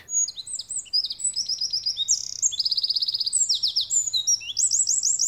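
A wren, a small brown bird about 11 cm long with an upturned tail, pours out a shrill, fast, varied song of high trills and rapid chirping phrases, continuous and lively, with a faint low hum underneath and no voices.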